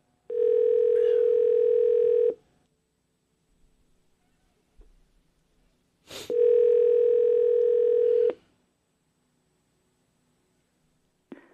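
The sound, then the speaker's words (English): A telephone ringback tone while a radio host calls his mother, sounding twice, each a steady, buzzy two-second ring with a long pause of silence between them, fairly loud against an otherwise quiet line. “One's basically in the bird, one is out, but we called my mom just to make sure.”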